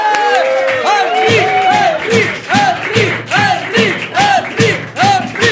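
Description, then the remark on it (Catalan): A crowd bursts into loud, sustained applause mixed with cheering and rising whoops as guest Enric Calpena is welcomed, the clapping steady underneath while voices shout over it for several seconds. “Rebem un fort aplaudiment a l'Enric Calpena!”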